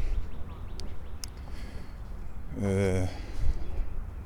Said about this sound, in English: Something else. Duck talk. Ducks.